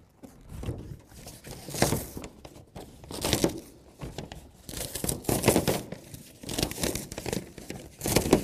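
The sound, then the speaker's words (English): Something is being torn slowly from top to bottom in a series of rough, ripping bursts, moderately loud, with brief pauses between pulls and no talking. “He tore it from the top to bottom”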